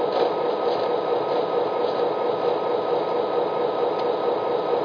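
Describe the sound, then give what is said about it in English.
A stopped freight train idles on the track, giving off a steady, unbroken mechanical rumble and hiss that holds at the same loudness throughout, with no voices. “All right, let's walk the train to make sure everything is still on the track.”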